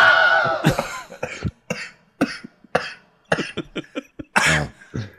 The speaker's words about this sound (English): I'm coughing like … from fucking …